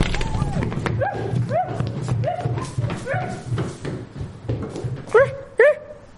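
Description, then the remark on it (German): A dog whimpers and whines repeatedly in high, sliding yelps, then lets out two short, louder barks near the end, with a low steady rumble underneath. “Und was machen wir mit dem anderen Hund? Den nehmen wir auch mit.”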